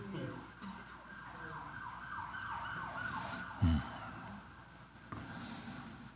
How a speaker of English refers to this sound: Lord, we pray for whatever the sirens are for. Bless the people.